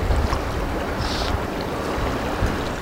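Water sloshes and laps lazily against the quay wall of the empty container port of Massawa, Eritrea, a steady wash of splashing with soft low churning underneath, continuous for the whole stretch with no voices.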